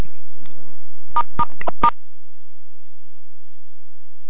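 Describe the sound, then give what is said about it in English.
A quick burst of four or five sharp telephone keypad beeps, pressing *6 to mute a phone on a group call, clear, followed by a quiet hiss of line noise with no one speaking. “So just as a reminder, I'm going to ask everybody to do *6 to mute their phone unless they have their own mute button.”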